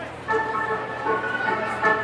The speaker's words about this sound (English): And while the Twins have the tag team of Nelson and Miller providing music at Target Field, across the river at CHS Field, where the St. Paul Saints play, there's a guy on electronic keyboard also making organ-like sounds.